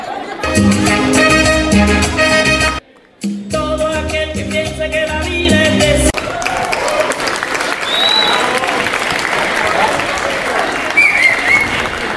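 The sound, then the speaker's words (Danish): A few seconds of loud tonal music, briefly interrupted, give way to a sustained burst of audience applause for South American performers improvising on stage: dense, steady clapping with crowd noise and a few whistles that carries on to the end. “De skal have noget rigtig klapsalver, og I må gerne danse med.”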